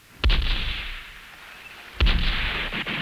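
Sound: naval cannon fire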